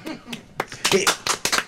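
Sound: small applause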